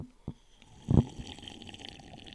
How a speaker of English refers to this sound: I take a sip of wine.